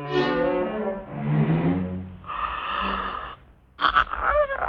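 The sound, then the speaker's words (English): A cat's long, drawn-out yawn as it stretches, rising into a wheezy, breathy stretch before trailing off, followed by a short pause and a few more squeaky, breathy noises as the cat settles back to sleep. “The cat yawns and stretches and settles back to sleep.”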